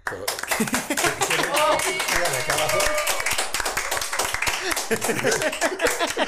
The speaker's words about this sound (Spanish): Es que empezamos aplaudiendo, ok.